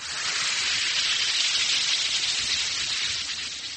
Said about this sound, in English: Yes, that's the mighty welcome sound of a glass of sparkling Alka-Seltzer, about to bring somebody prompt and effective relief.